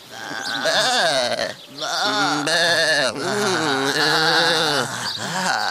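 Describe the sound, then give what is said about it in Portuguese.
A Portuguese sapper goat bleats loudly, a run of long, quavering bleats with only brief pauses between them, filling the whole stretch with no other sounds. “E a ficha técnica do Portugalex será esta semana lida por uma cabra sapadora. Bah.”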